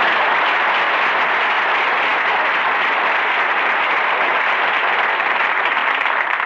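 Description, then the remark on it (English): Steady, loud applause from a crowd fills the whole stretch, a dense even wash of clapping hands with no voices over it, given as a big hand for Don Wilson. “Folks, how about giving Don Wilson a big hand?”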